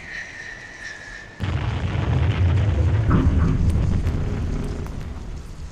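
A steady high whistling tone gives way to a sudden, loud explosion as Gandalf's fireworks blast open a stone wall bearing an inscription, followed by several seconds of deep rumbling and crackling debris that slowly settles.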